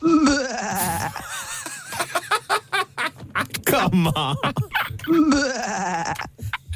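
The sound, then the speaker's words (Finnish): A person imitates a sheep, letting out wavering, nasal bleats at the start and end, with quick laughing, snickering bursts in between, fairly loud. “Se on pahis lammas.”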